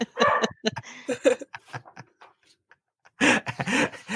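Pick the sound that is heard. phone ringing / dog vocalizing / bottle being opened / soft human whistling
dog vocalizing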